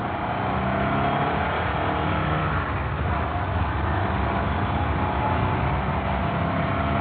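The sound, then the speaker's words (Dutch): A car driving slowly along a street: the engine hums steadily at low speed, a continuous muffled drone with road rumble throughout, with no change in pace. “Rij maar zachtjes”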